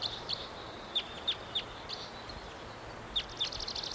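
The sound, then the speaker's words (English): A wild bird of unidentified species, unseen up in the high treetops, calls with a series of sharp, high-pitched chips at uneven intervals over a thin, steady whistle, ending in a quick rapid flutter of notes. No one speaks. “Wild bird. Not sure which one this is. Don't see it. Up in the high treetops.”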